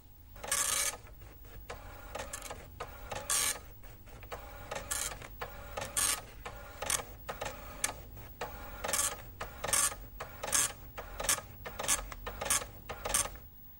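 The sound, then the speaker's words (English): A printer, started with a button press, prints out a message shown on a computer screen: a steady run of sharp, buzzing rasps, one burst after another at a brisk, even pace, loud and alone with no voices. “If I want to get that message printed out, I can do that as well, just by hitting this button.”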